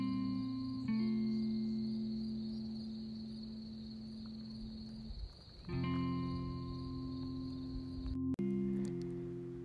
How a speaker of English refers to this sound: Maybe the sound of crickets softly singing their song. Imagining what you would hear.